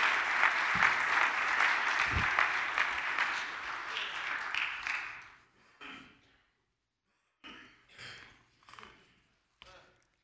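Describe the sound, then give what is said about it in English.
A crowd applauds a family for their help in an illustration that morning, with steady, dense clapping for about five seconds, then it fades into a few scattered claps and brief murmurs separated by quiet gaps. “So can we give this family a hand clap for their help in this illustration this morning?”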